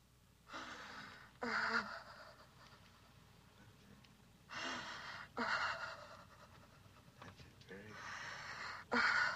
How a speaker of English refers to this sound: And once the breathing begins to deepen, then the feeling begins to flow through the body.